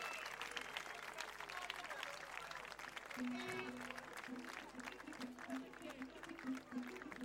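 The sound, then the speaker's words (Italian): Audience applause fills the space, a dense steady patter of many hands clapping at moderate volume, with crowd chatter and a few voices mixed in throughout. “Un applauso perché vi incoraggiamento.”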